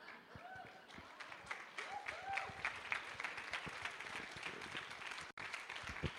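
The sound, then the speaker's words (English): An audience breaks into steady applause, many hands clapping in a dense, continuous patter that stays fairly even in loudness for several seconds, with a few voices murmuring underneath. “Now, are you clapping because he's not going to show you his navel?”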